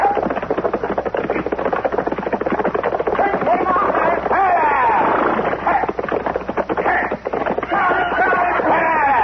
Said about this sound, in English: Somebody's sure riding up Front Street awful fast, ain't they? Yeah. That's a runaway horse